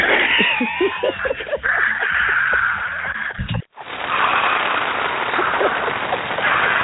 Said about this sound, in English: Wow, that sounds like the 60s applause, man. we have to update that. Yeah, but love American style applause, you know what I'm saying?